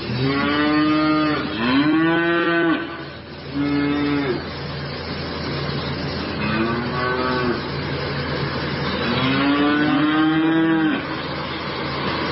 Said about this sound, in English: Now, I got a bunch of cows here in the studio. Up to 200,000 of those things you hear right over my shoulder in Ireland could be slaughtered by 2025